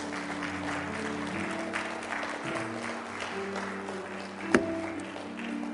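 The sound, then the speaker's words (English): A church audience claps to the Lord on a morning service, steadily in a dense, continuous wash of applause, with sustained low musical tones underneath and one sharp, louder hit standing out near the end. “Let's clap to the Lord this morning.”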